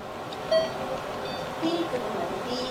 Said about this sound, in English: You hear that beep? Well, anyway, that... Can I have my nurse, please? That is the last bag of my last day of the last chemo ever in this hospital,